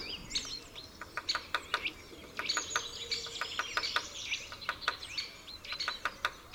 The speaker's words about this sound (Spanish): Un poco más arriba, a su izquierda, aparece un pico picapinos, un hábil carpintero que sabe trabajar la corteza para rebuscar larvas e insectos, y cuyo golpeteo de su pico contra la madera se escucha a gran distancia.